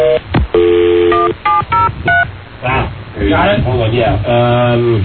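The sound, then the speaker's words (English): A quick run of telephone keypad tones, about half a dozen short electronic beeps in close succession as someone dials a phone number to call their own missing phone, followed by a person talking. “What is the number? La la la. Calling it right now?”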